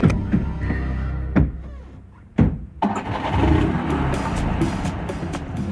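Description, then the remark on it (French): A few sharp clunks over a low rumble, then the engine of Thomas Sankara's car cranks and catches, settling into a steady, fairly loud idle that continues to the end. “Comme d'habitude, il prend place à l'avant de la voiture, à la droite de son chauffeur.”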